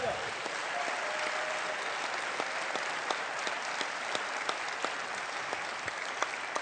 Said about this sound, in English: You know, this is, give God a good hand clap there.